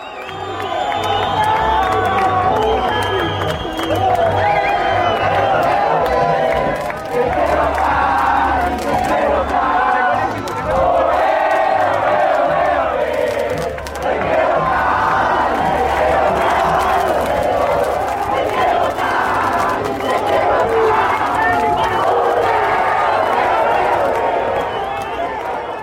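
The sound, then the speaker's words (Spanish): A large crowd of Deportivo Cali football fans chants and cheers loudly and continuously as the team bus arrives at Palmaseca stadium, many voices singing in rhythmic waves with a steady low drone beneath, only briefly dipping before surging again. “El bus del Deportivo Cali llegaba a Palma Seca en medio de una multitud de hinchas que cantaban sin parar.”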